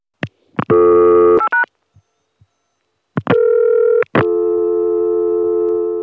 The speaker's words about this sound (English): The dial tone was on just a regular Atlanta phone number, which when I made the tapes in 1980 and 1981, I used speed calling to reach. So you just hear me dial 2 digits to get that Atlanta dial tone, like this.